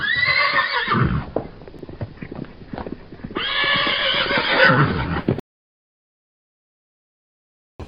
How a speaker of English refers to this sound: You spooked our horses. We could have been killed.